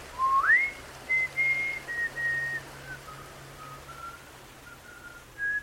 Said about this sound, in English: Before he disappeared into the dark, Hatham could have sworn he heard the boy whistling.